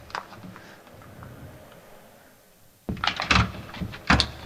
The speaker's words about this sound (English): And you can insert it between the door and the door post. Normally, there's enough room. If there's not, you can just gently push on the door to create a little bit of space. Then you slide it down over the bolt, which will retract.